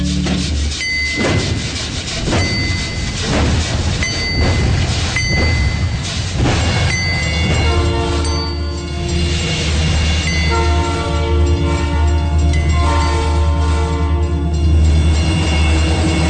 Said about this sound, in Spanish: Po, po, po. Po, po, po. Va el ferrocarril como si fuera de verdad.